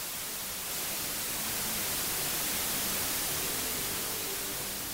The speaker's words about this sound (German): Das ist weißes Rauschen. Es enthält alle hörbaren Frequenzen gleich laut und erscheint uns deswegen unangenehm, ohne Struktur. Aber in diesem Rauschen versteckt sich tatsächlich eine Struktur, nämlich ein Klavier. Hören Sie es?